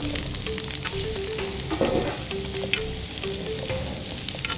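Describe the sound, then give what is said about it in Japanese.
Irregularly cut daikon chunks sizzle and crackle steadily as they are stir-fried in hot chicken fat rendered from browned chicken, with a brief burst of louder spattering partway through and a faint low hum running underneath. “この油を利用して今度は大根を入れます。”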